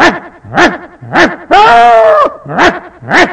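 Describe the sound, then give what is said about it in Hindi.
A singer on stage imitates a yelping dog with their voice, like a dog hit by a stone and running off: short, sharp yips in a quick uneven rhythm, broken by one longer, wavering drawn-out cry in the middle, fairly loud. “उसको गुस्सा आया, ये गा रहा है कुत्ते की आवाज निकल रहा, बाजू से पत्थर लिया मारा, कुत्ता मार खा के भागता है, उस समय की आवाज सुनाई देती है, ये भी स्टेज छोड़ के वैसे ही भाग रहे हैं”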